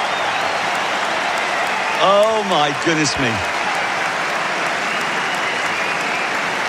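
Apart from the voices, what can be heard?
tennis crowd applauding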